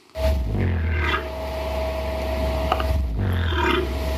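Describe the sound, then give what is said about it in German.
Deep, rumbling grunts from a cassowary, a low throaty drone with a couple of rougher pulses, sounding continuous and fairly loud with no talking. “aber auch bei Laufvögeln, zum Beispiel wie dem Kasuar, der klingt ungefähr so.”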